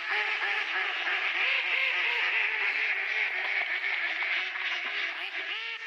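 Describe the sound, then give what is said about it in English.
A dense, nonstop chorus of many ducks quacking over one another, loud, played in place of music in the free version of a track, filling the whole stretch with raucous overlapping calls and no pauses or voices. “The free version of this track will replace music with duck sounds.”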